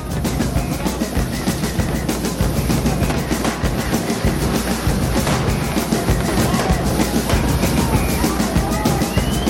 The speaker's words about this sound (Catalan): A què us sona aquesta musiqueta, aquest ambient? Clar que sí, petards, diables... Això és el Ceba Foc, que s'està acostant ja, que arriba d'aquí poques hores aquest cap de setmana